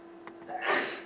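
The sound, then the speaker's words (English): A single sneeze, with a short breathy intake leading into a loud, hissing burst that trails off. It stands alone with no talking. “Bless you.”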